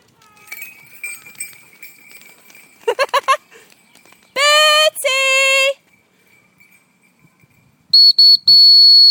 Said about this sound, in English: Whistling, Mum. Shout him or whistle him.